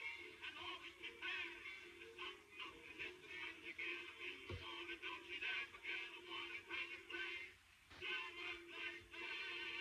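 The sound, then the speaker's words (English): A little boy's toy train set runs steadily, its small motor whirring with a fast, rhythmic clatter that holds at an even, moderate level for the whole stretch, with no voices. “And to give a backstory of why y'all hear this, it's like a little boy, he's playing with his little train set and he falls asleep.”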